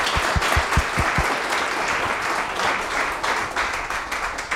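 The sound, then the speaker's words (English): A crowd applauds a presenter after a slide talk, a steady, dense wash of many hands clapping at a fairly loud, even level, with a few sharper individual claps standing out at the start. “Well, first of all, let's give him a round of applause for this wonderful thing.”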